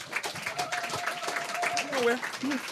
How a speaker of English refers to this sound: Let's have a round of applause for this brother right here.